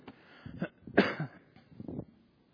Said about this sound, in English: I thought I was done with my cough and it started coming back today. I don't understand this. So, okay, well, you have to bear with me.